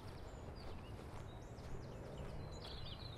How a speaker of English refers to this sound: It's quite a nice bird song here today. As we walk down the hillside. The trees aren't in leaf yet, there's still very much a winter landscape. It's thoroughly pleasant nonetheless though.